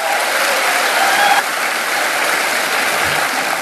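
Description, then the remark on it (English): A crowd at a Harvest event applauds loudly and steadily to welcome Dr. James Dobson, a dense wash of clapping that holds an even level throughout with no voices standing out above it. “So with that being said, let's give a warm Harvest welcome to Dr. James Dobson.”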